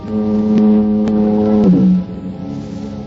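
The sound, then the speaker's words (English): A distant foghorn down at the point near San Quentin Prison sounds a deep, monotonous moan, one long sustained low drone that wavers and slides lower partway through before fading into a softer hum, as fog turns to drizzle. No one speaks. “Cool, quiet, except for the monotonous moan of the foghorn down at the point near San Quentin Prison.”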